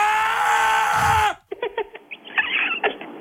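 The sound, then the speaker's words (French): A man, as a joke, lets out a loud, sustained scream lasting over a second, which cuts off abruptly and is followed by a series of short, choppy vocal bursts. “Ah oui bien sûr, mais vous pouvez crier, hein.”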